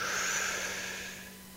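A long, steady, airy deep inhale taken on a count of three as a breathing exercise, a breathy hiss that holds for over a second and slowly fades, with no talking.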